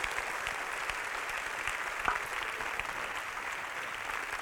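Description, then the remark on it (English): Steady applause from an audience for Dr. William Labrizzi as he comes forth, a dense wash of many hands clapping at an even level throughout, with one slightly sharper clap standing out midway. “Please give Jesus a warm hand clap for Dr. William Labrizzi as he comes forth.”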